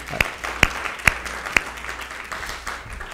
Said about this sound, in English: But I hope you all join me in giving a round of applause